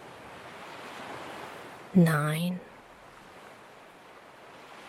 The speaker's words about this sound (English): The gentle sound of the waves soothes you.